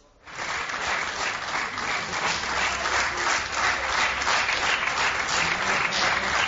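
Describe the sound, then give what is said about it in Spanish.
Sustained applause from journalists in the press room of the Estadio de la Luz, greeting the coach of the runner-up team, Atlético de Madrid; dense steady clapping that starts abruptly and continues evenly throughout, moderately loud, with no speech. “Comparece el entrenador del equipo subcampeón, que es recibido con aplausos por la prensa.”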